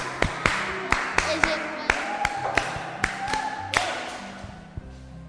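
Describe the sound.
Scattered applause after an arithmetic answer is given: about a dozen sharp, crisp hand claps in an uneven rhythm, with quiet voices murmuring underneath.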